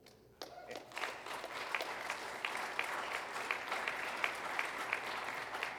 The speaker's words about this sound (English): I love that you clap. You know, it's awesome.